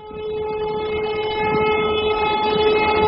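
A train bound for East Anglia rolls steadily along the rails with a continuous low rumble and a sustained tonal whine over it, fairly loud, with no voices.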